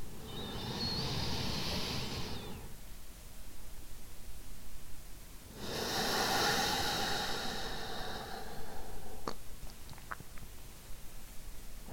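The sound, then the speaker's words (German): Slow, deep breaths into the belly during a conscious breathing exercise, a long airy inhale followed by a long exhale, each lasting a few seconds, with a few faint clicks afterward. “Allein dieses bewusste Atmen bringt uns sofort in den Moment und raus aus dem bekannten Hustle-Modus und lässt uns mehr landen.”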